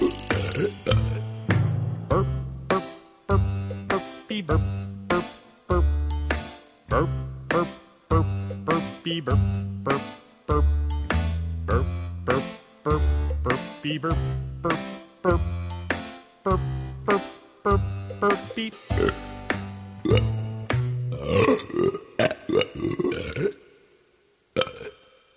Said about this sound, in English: Would a baby be insulted by that? I think that's family friendly. It's got kind of a nice tune. Burp, burp, burpy, burpy, burp, burp